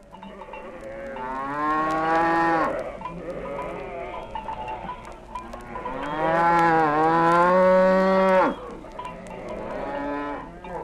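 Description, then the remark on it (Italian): Cows low in long, drawn-out moos as they advance, two big sustained calls standing out among shorter ones, loud, with no one talking. “Sempre solenni ed ingombranti avanzavano le mucche con lunghi muggiti.”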